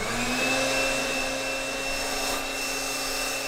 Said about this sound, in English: Now, instead of using a regular blow dryer, like the kind you get from a drugstore, she uses a very specific piece of scientific equipment called an air mattress inflator.